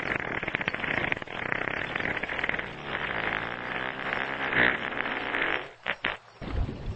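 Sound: humpback whale fart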